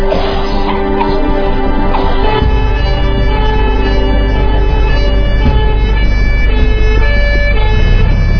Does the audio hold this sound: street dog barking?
no